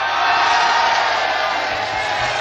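An audience applauds and cheers: a dense, steady wash of clapping with scattered whoops, loud and unbroken for the whole stretch, with no one speaking.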